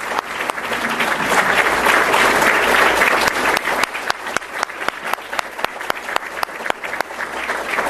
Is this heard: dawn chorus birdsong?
no